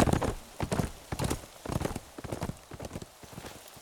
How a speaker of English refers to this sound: kicked his horse into a slow gallop, Mary following, and Cotton Blossom loping along behind